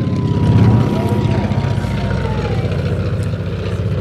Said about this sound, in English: Now the DC-2, the Oiver, is just coming in on its final approach and is about 20 or 30 feet above the runway at this moment, but I don't think he's going to land on this occasion. No, he's doing a low pass.